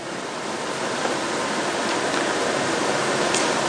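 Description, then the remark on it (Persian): Water flows in a steady, continuous rush, like a stream or small waterfall, fairly loud, with no voices or other sounds. “یه وقتی میگه آب، این واژه دقیقا شکل اینه، این حقیقت بخواد شکل پیدا کنه میشه آب، درسته؟”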